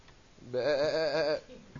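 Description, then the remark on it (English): A voice imitates a sheep's bleat with one loud, wavering, nasal 'baa' lasting under a second, trembling in pitch, with quiet moments before and after. “What's a sheep going to do tied to your bed for 4 days?”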